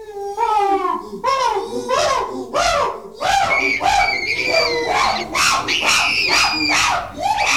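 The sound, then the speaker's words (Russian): A troop of chimpanzees calls in a loud chorus, with rising hoots and shrill screams overlapping in a rapid, unbroken stream that grows more intense and crowded toward the end. “Рано утром, а также на вечерней заре, слышится быстрый, непрерывный шум шимпанзе, который сравнивают иногда с рычанием ревунов.”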